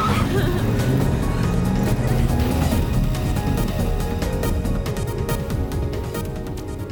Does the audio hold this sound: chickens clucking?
no